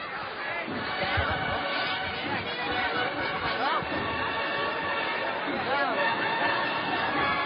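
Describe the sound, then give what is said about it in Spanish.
A crowd in commotion as people run and flee in the Plaza del Duque, a dense, loud wash of overlapping voices and raised shouts with restless movement underneath, continuous from start to finish. “No sabemos, la gente está corriendo.”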